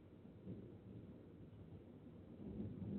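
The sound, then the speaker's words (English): Low, continuous thunder from a storm rumbles, a deep rolling growl that swells slightly toward the end, with no voices over it. “Oh, we're going to have another storm.”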